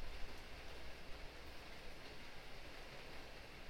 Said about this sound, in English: Or maybe the city water is rushing along the side of the sidewalk, down through the drains.